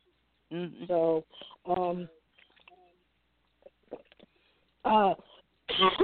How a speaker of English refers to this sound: I have a stress response with coughing as well. It's partially part allergy and part stress response.